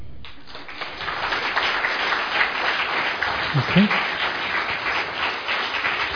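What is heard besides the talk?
audience clapping hands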